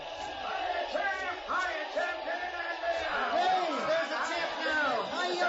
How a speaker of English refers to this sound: The crowd is going wild.